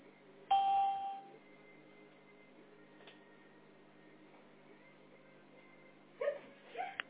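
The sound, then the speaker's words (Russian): A single short electronic beep from an automated phone system prompting the caller to enter a 12-digit account number or 10-digit home phone number, a steady mid-pitched tone lasting about half a second, followed by quiet line hiss and a brief burst of voice near the end. “Если вы хотите получить информацию по своим услугам, пожалуйста, после звукового сигнала введите 12-значный номер лицевого счета или 10-значный номер домашнего телефона и нажмите решетку.”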